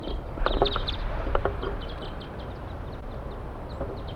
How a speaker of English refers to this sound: Start recording, just caught an adult male and there are other birds coming around here. Stop. A flock is calling from the treetops.